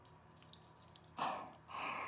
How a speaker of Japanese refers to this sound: はい、体をゴシゴシ洗うのはここまで。